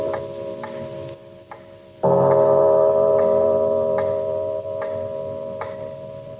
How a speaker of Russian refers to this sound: Слышите? Это бьют часы в доме мистера Домби.